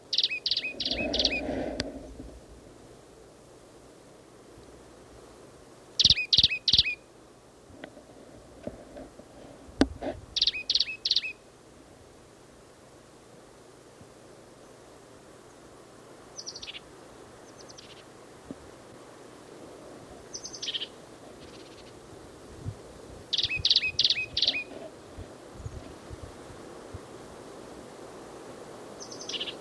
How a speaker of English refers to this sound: This is the plain titmouse again, same as last cut. He's sitting up in the top of a scrubby oak.